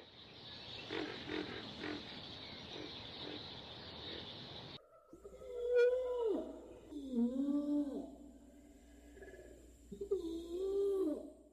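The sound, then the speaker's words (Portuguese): After a few seconds of dense, hissing noise, whale calls take over: three or four long, wavering moans that bend up and down in pitch, fairly loud and resonant, with no one speaking. “E depois as gravações. Por exemplo, sapos e baleias.”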